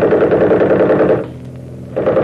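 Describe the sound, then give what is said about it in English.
A loud, rapid burst of machine-gun fire rattles at night for about a second, breaks off into a brief lull, then a second burst starts up. “The minute I open up with the rifle, smack them with the machine gun.”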